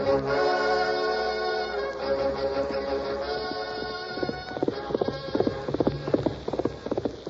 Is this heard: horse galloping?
yes